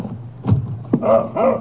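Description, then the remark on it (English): A dog named Charlie barking outside the back door of a roadside cafe kitchen in West Texas at 5:45 a.m. on March 6, 1940: a few short barks followed by two higher, whiny yelps in an uneven rhythm, moderately loud over a low background hum, with no one talking. “As he sweeps up in the kitchen, he hears a sound outside the back door.”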